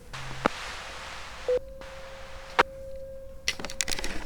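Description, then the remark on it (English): A new digital tornado siren at 132nd, heard through an open window, sounds as a single steady, mid-pitched tone, held unchanging for nearly three seconds. A brief lower tone and a few sharp clicks come before and during it, with no one speaking. “The tornado sirens are starting back up.”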